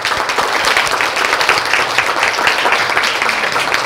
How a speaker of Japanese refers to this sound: ぜひ拍手をお願いします。